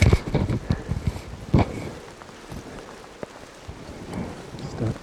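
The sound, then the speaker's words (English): Heavy rain pours down in a steady, dense hiss, with sharp patters and occasional low rumbling gusts throughout; no one speaks. “It's raining quite strongly here.”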